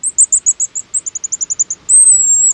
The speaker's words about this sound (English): These shrill notes belong to a little seabird, the pigeon guillemot. Cousin to the puffins, whistling over the waves along the Pacific coast.